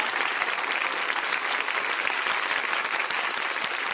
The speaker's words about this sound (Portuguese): E agora, além de Fernanda Montenegro, nós temos a nossa jam session. Pode aplaudir.